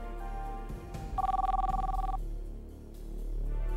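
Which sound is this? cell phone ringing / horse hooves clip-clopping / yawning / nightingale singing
cell phone ringing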